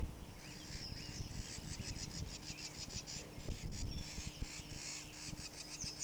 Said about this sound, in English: Solitary Vireo number 6. Scolding a bird, possibly near the nest.